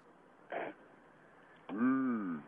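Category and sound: human body sound, man clearing his throat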